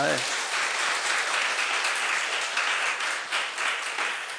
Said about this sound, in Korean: 박수 한번 쳐.